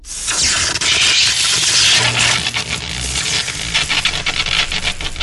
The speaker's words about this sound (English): The door mechanism is cratered from one of Jazz's slugs, and the static arcs of electricity jump from it as it sizzles.